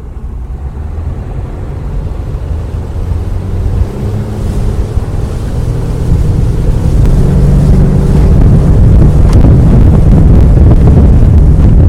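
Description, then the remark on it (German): A motorboat engine roars and builds steadily as the boat speeds up, loud, with rushing water and wind buffeting the microphone. No one speaks. “Also, nicht nur fliegen ist schön, auch Motorboot fahren.”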